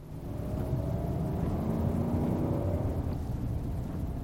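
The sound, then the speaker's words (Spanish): A car engine roars with a heavy, continuous low rumble, its pitch edging upward as the car speeds up. The sound is loud throughout, with no voices. “A medida que la velocidad del coche aumentaba, el ruido del motor también lo hizo.”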